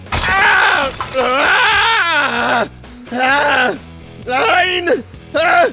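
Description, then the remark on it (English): Loud, pained groaning and strained cries come in four drawn-out bursts, raw, with a brittle crunch of breaking glass mixed in near the start, as Butcher hurls a handful of glass shards at Stormfront's face. “Butcher then hurled a handful of glass shards at Stormfront's face.”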